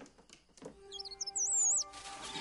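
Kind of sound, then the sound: bird, bird chirping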